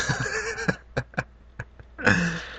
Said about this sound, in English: Yeah, I was about to say, yeah, I saw a donkey. I don't want a donkey. That was a goat.